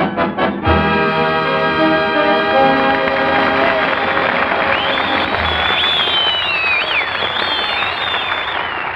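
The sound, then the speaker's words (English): A large audience of servicemen on leave, in Army, Navy, Marines and RAF uniforms, claps and cheers loudly and steadily for the whole clip, with shrill whistles rising above the applause and a sustained musical chord ringing underneath. “You hear all those fellas clapping and cheering out there in the audience?”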